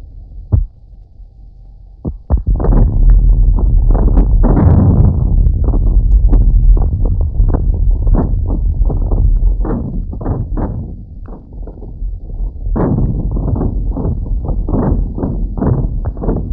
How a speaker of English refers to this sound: Now let's listen to the Caltech recording of last Monday's Tehachapi earthquake. If you listen carefully, you will hear a kind of warning preliminary snap just before the big shock let go.